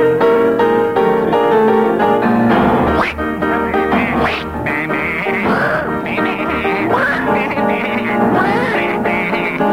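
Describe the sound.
A voice sings a jaunty tune in the manner of a duck, quacking in rapid, nasal bursts over steady piano accompaniment, loud throughout, with a bleating sheep imitation creeping in briefly.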